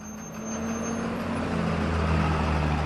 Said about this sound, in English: Just after 4 p.m. on weekdays, a procession of repurposed American school buses moves through an outlying neighborhood in Ciudad Juárez.